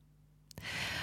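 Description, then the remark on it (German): After a moment of near silence, an airy breath swells in: a person inhales deeply through the nose and exhales long through the mouth, a strong rushing draw of air that continues steadily to the end, with no talking. “Und die kann beginnen mit deinem Atem, die kann beginnen damit, dass du tief durch die Nase ein und lang durch den Mund wieder ausatmest.”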